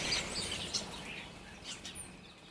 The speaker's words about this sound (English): It is getting light now. Oh God, I can hear birds now. Fuck birds.